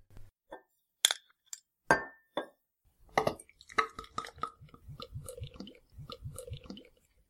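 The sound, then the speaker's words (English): A big-bodied beer is opened and glass snifters clink: sharp glassy clinks, a few separate taps early on, then a busier stretch of clattering, rustling and soft thuds, with no talking. “So let's open it up.”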